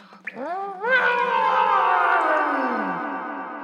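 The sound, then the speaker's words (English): A child's voice imitates a T-Rex roar into a cave: a short grunt, then a long, loud, growling cry that swoops up in pitch and slowly slides down over about three seconds. “Okay, I'm gonna roar like a T-Rex.”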